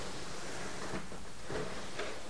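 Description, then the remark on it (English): A high chair with a child in it is slid out into the living room while the floor is being mopped, scraping across a hard floor in a steady, rough drag, with a few slightly louder pushes along the way. No one speaks. “Let me slide your high chair out into the living room.”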